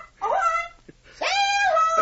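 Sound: bird squawking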